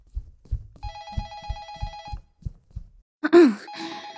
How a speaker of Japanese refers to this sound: あ、やっべ、電話。